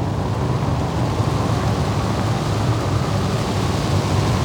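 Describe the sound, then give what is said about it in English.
Strong wind blows at a volcano covered by a thick black cloud, in a steady, heavy roar, thick with low rumble and unbroken for the whole stretch, with no voices heard. “There's a strong wind and a thick black cloud is covering the volcano.”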